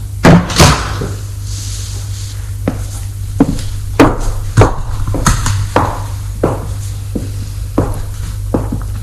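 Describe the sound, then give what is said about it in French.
A door opposite a bed in a white, hospital-like room opening, heard as a string of sharp clunks and clicks spread irregularly over several seconds, set against a steady low electrical hum. No one speaks. “La porte qui vient de s'ouvrir en face de son lit”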